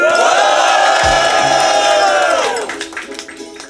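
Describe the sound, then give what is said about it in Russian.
A loud crowd at a hip-hop event cheers and roars together in a dense, sustained wash of voices, with shouts and whoops riding on top, as the first round begins; then the noise thins out into scattered yells and claps. “Хип-хоп «Одинокой старухи», первый раунд, дайте шуму!”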